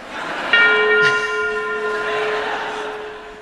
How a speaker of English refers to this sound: I insisted that the bell be replaced by Big Ben. So that you would feel comfortable.